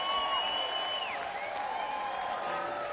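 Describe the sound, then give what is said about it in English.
An audience claps steadily for a few seconds, applauding Bob Stone, with a dense patter of applause mixed with cheering and a couple of sharp whistles. No one speaks over it. “Ladies and gentlemen, give a round of applause to Bob Stone up here making things happen.”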